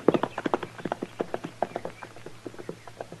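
Horse hooves clip-clop in a quick, steady rhythm, a long run of sharp hollow knocks that grow slightly softer toward the end, with a faint low hum underneath and no talking.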